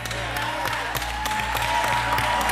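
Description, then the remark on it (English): A crowd claps steadily for a couple of seconds, a dense, continuous patter of many hands with a few sharper claps standing out, over a low background hum. “Some of you, the way you're clapping.”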